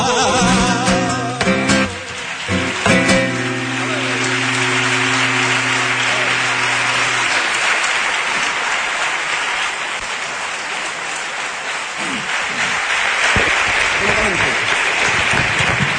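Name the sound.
audience applause and clapping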